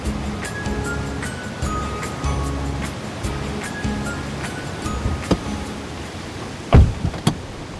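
ocean waves breaking

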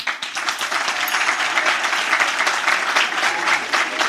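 audience applause

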